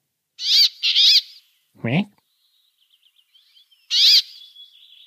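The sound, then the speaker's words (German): A finch, a Nordic species closely related to the chaffinch, gives loud, nasal quacking calls: two in quick succession, then another a few seconds later. A lower, falling call and faint chirps come in between. “Und bestes Merkmal ist aber, ihr seid irgendwie in einer Feldflur unterwegs und ihr hört dieses Quäken.”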